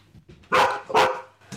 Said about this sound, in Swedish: Varje gång någon kör upp på gårdsplanen skäller klosterhunden Bella.